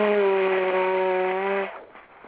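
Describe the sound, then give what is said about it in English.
A single long, loud nose blow with a steady, buzzing honk that holds one pitch for over a second, then cuts off abruptly, leaving faint breathy noise. No talking. “I got blow my nose first before I have to get interested into this.”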